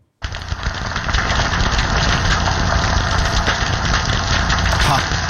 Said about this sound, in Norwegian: Det høres nesten ut som noe som koker, liksom. Ja, det gjør det. Steker, nesten. Men det reker. Det der er pistolreka, tusenvis av pistolreka under vann som sitter og lager de her boblene som knuses da